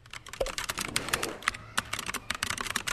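Rapid, continuous clicking of keys on a computer keyboard, a dense flurry of close-up keystrokes with no pauses, heard on its own without any talking.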